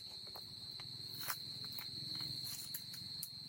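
A few scattered footsteps scuff softly on a hard floor, irregular and fairly close, over a constant high-pitched insect drone and a low background rumble.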